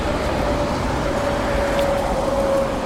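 A steady wash of busy street traffic on Bayerstraße, a big road right outside Central Station by a shop called Trachten Outlet, fills the scene: a constant loud rumble of passing vehicles with a faint sustained tonal hum running through it and no voices.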